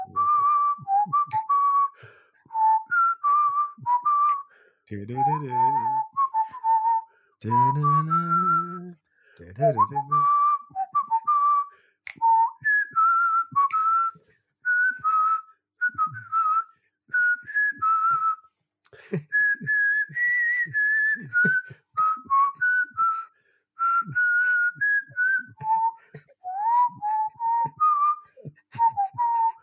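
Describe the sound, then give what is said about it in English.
A man who has had nine pints whistles a theme tune, lively and rather badly, with steady melodic phrases running almost continuously, briefly interrupted early on by a few wavering vocal sounds like chuckles or hums. “A man after 9 pints whistling the theme tune.”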